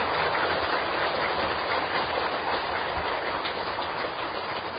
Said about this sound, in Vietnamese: Một lần nữa xin toàn thể hội chúng một tràng pháo tay thật lớn để tri ân và biết đạo sư.